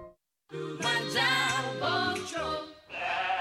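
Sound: sheep bleating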